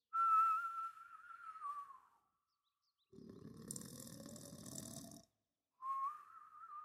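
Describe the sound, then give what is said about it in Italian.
A loud snore with a whistling edge: a steady high whistle, then a rough, rumbling snore rising in pitch, and the whistle returning. Clear, with no talking. “Il cacciatore udì uno strano fischio dentro la casa.”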